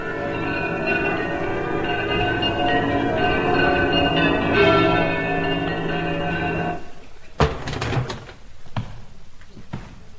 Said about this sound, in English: Them bells.